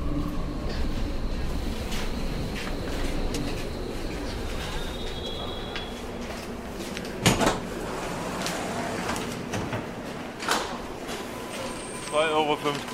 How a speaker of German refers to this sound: Und schon klappern die ersten Münzen in den Becher.